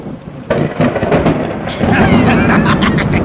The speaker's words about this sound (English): At last! The storm is on its way!